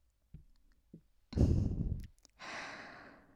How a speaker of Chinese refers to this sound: 以你现在喘息的速度，说不定我再摩擦一会儿，就直接射出来了呢。